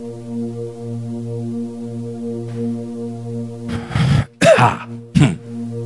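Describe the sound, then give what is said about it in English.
During a sermon, a preacher imitates how an anointed man can snore: three harsh, raspy snorts in quick succession, each a rough throaty burst, heard over a steady, low sustained organ-like drone that plays throughout. “The anointed can even snore like this.”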